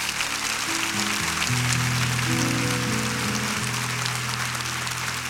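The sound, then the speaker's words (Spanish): Dense, steady applause from a church audience during a sermon, given to the Lord, fills the whole stretch, a continuous crackle of clapping, with sustained low keyboard chords shifting slowly underneath. “Ah, yo creo que se merece un mejor aplauso el Señor todavía.”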